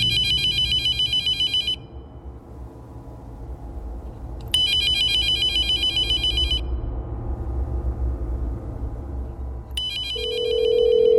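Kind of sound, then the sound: signal or alarm, telephone ringing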